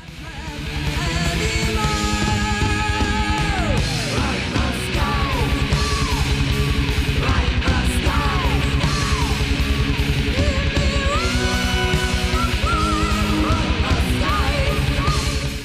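A fast, aggressive heavy metal song plays loud and dense from start to finish, with shouted, yelled vocals riding over pounding drums and distorted guitars.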